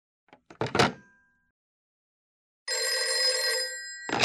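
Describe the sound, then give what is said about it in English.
A few quick clunks come first, then a loud telephone bell rings in one sustained burst of about a second, with another ring starting just as it ends. “Oh, who is trying to call me?”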